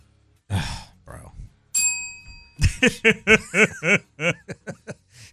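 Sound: bell ringing sound effect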